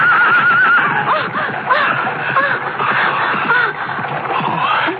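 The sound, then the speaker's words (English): A horse-drawn chariot rushes along an avenue in a loud, dense clatter of hooves and rumbling, with horses neighing in shrill, wavering whinnies over the steady din for about five seconds. “Get out of the way, girl, the chariot!”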